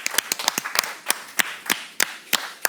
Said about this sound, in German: Schön, dass meine Gäste da sind und schön, dass ihr, dass das Publikum auch hier ist. Applaus für euch. Vielen Dank.